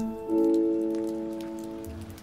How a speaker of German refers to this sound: Ein Tag Anfang Oktober. Es ist unangenehm kalt und regnet.